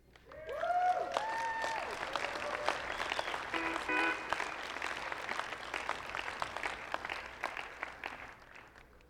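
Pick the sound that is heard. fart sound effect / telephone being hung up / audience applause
audience applause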